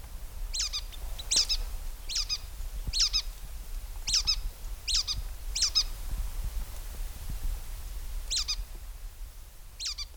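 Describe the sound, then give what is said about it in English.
A red-breasted nuthatch gives a series of short, squeaky, nasal calls, about eight spaced notes over steady low background rumble, with a brief pause before the last couple. “They have a squeaky dull call, as you can hear in this recording.”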